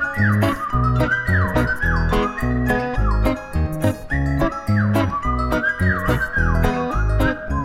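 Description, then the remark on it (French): A loud whistled melody of rising and falling blackbird-like phrases, coming through a garden at 5 in the morning, repeating over a steady rhythmic musical backing with a thumping beat and bass. “Mais soudain par le jardin, un sifflement de démon me ramène à la surface.”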